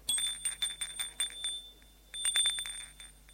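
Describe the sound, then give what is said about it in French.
A doorbell at a door off a building's landing rings in two bursts of rapid, high-pitched metallic trills with a brief pause between them, fairly loud and with no voices. “Il est arrivé au palier. Il va sonner.”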